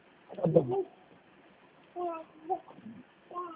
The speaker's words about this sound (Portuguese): Esse bebê chorando é seu?